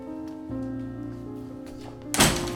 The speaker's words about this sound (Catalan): se'n va cap a la porta. Li obre perquè marxi.